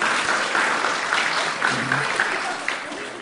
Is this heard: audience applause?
yes